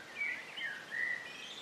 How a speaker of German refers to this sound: und hörst das fröhliche Zwitschern der Vögel über dir.